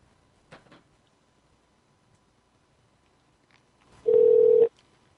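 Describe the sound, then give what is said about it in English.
A few faint clicks as someone redials a phone number, then after a pause one loud, steady telephone tone lasting about half a second, like a dialed-call signal, with no voices. “Is there a 3-digit extension associated with the phone number you just called?”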